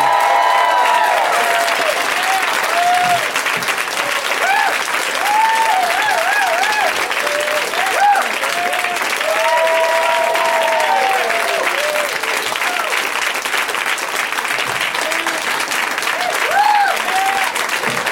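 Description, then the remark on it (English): A large audience applauds steadily and loudly for the full stretch as guests including Judd Apatow and Aziz Ansari are welcomed, a dense wash of clapping with scattered cheers and whoops rising above it, no break in the noise. “I know I'm the one you're applauding for.”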